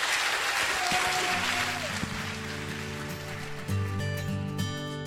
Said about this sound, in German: bitte geht's auf die Bühne für einen Applaus für den Radio-Workshop, der die ganze Woche hier war.